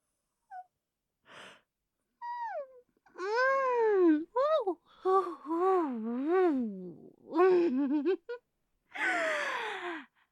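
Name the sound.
yawn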